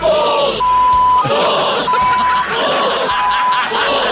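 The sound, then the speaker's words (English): A loud, dense crowd yells and roars continuously, with a steady electronic beep sounding three times over the noise at regular intervals. “Even the crowd gets involved.”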